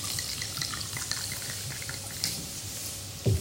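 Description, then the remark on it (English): Communion wine or juice pours steadily into a cup, a continuous splashing stream with faint trickles, finishing with a deeper glugging burst at the very end. “I'm not saying you have to pour this much, by the way.”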